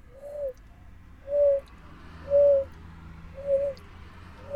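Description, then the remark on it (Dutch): A stock dove gives a series of soft, low cooing notes, about five evenly spaced hoo-oo phrases repeated in a steady rhythm, with no talking and faint background hum. “En het zijn echt, zoals de naam al doet vermoeden, holenbroeders. Dus ze broeden in holle bomen.”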